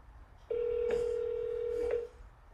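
telephone call being dialed

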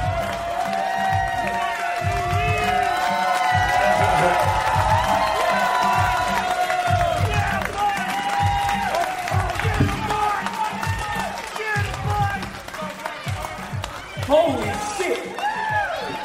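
audience cheering

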